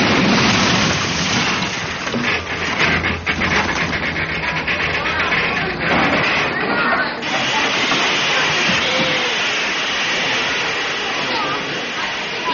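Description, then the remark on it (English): Train brakes screech and hiss loudly as the train grinds to a stop after the emergency cord is pulled, a dense, continuous roar of metallic squealing and rushing steam that lasts for several seconds. “I'll pull the cord up there, the emergency cord. That will put on the brakes and stop the train.”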